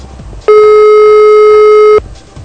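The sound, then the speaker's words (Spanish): A telephone line's ringing tone as a call goes unanswered, one long, steady electronic beep lasting about a second and a half. It comes through loud and clear over a faint, muffled background murmur. “Parece que nadie contesta el teléfono.”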